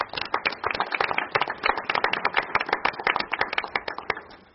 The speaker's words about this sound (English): And I think that that number one ranking deserves a round of applause.